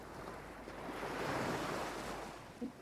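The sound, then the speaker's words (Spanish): A soft wash of ocean surf swells and recedes in one slow, gentle wave, steady and fairly quiet, with a faint breezy hiss underneath and no voices. “Vas entrando y las olas suaves van rompiendo contra tus rodillas, contra tu abdomen.”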